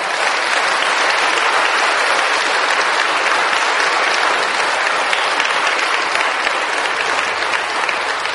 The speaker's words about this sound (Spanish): Vamos mejorando en los aplausos.